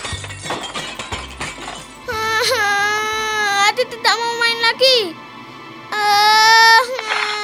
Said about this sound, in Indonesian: Ayah, pesawatnya rusak. Loh, jagoan ayah kok menangis? Kenapa pesawat luar angkasanya?